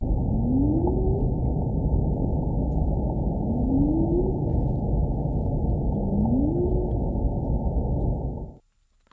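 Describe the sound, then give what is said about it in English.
Humpback whale song recorded underwater by an acoustic monitoring buoy 22 miles south of Fire Island: three rising, moaning upsweeps, spaced about three seconds apart, over a steady, muffled low rumble that cuts off abruptly at the end. “Here, be very quiet, here is 8 seconds of a humpback song they recorded.”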